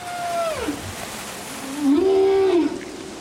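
Whale song: a long tonal call glides downward, then after a pause a second moaning call rises and holds steady, resonant and fairly loud against a soft underwater hiss.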